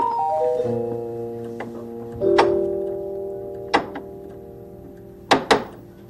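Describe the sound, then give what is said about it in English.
A few sharp knocks on a door by Red Riding Hood in make-believe, spaced out irregularly and ending with a quick double rap, heard over soft sustained musical notes. “Somebody knocking?”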